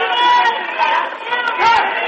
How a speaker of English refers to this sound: You can hear the crowd on that one. He nails his three from right at the top of the key.